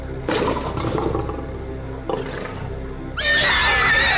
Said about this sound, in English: Oh, a horse.